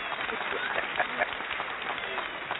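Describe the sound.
An audience applauds with steady, dense clapping that holds an even level for a couple of seconds, and a murmur of voices is mixed into the noise.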